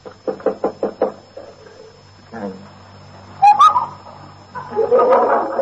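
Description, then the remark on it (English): Six quick, evenly spaced knocks on a wooden bedroom door, fairly loud, followed by a quieter stretch with a short whistling sound and some muffled movement. “Lock on his door. He'll probably still be in bed.”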